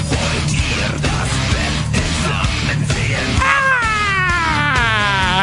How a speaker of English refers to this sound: Unenthusiastic scream for ….